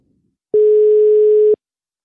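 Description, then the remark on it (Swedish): A single telephone ringback tone sounds once while a call is placed to Jonna Lundell, a steady mid-pitched hum lasting about a second and starting and stopping abruptly, clear and fairly loud with silence on either side and no talking. “Så ringer jag upp Jonna en stund”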